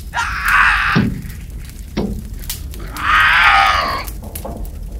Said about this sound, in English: Ah! 457 backs away from the window, still screaming, hissing, and snapping.